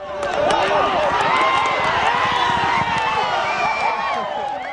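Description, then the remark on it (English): A dense crowd at the Dodge City Downs horse racetrack in Dodge City, many voices talking and calling over one another in a steady, loud babble that holds for the whole stretch without any single voice standing out. “We're at Dodge City Downs, where the horse races take place.”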